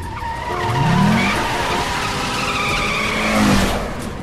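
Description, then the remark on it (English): A car's tires screech and skid in two sharp, rising squeals over a steady engine roar, with no voices, as the vehicle swerves hard out of the opposite carriageway, clear of a truck crossing the junction ahead, and back onto the right side. “She manages to swerve clear and back onto the right side.”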